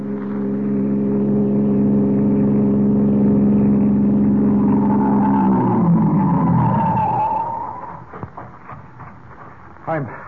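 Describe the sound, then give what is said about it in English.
A passing car's engine drones steadily, then its pitch sinks as the car brakes and rolls to a halt at the side of the road, leaving a quiet idle with a few faint clicks and a thump. “The police captain, left unconscious in the bushes at the side of the road, has recovered sufficiently to stagger to his feet and attempt to flag a passing car.”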